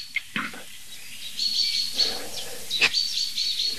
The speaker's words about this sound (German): Weil es kann auch ähnlich intensiv klingen, wenn ein Marder am Nest ist. Also die, da würde ich jetzt bei dieser speziellen Situation, Buchfink warnt am Nest, nicht so sehr zwischen Luft- und Bodenfeind unterscheiden, wenn es ums Nest geht, ja.